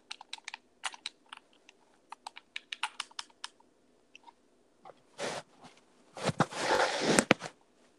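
Rapid, irregular plastic clicks from buttons being pressed, sharp and fairly loud, followed by a couple of longer rustling, crunchy bursts near the end; no voices.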